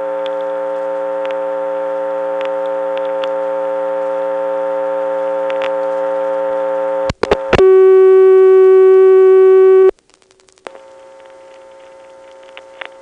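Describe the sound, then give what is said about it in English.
On a telephone line held in lockout by its line relay, a steady, buzzy telephone tone is broken by a few sharp clicks from a quick hookswitch flash, then a loud, clean new dial tone hums on its own before cutting out to quiet line noise. “From lockout, a short flash will get us a new dial tone.”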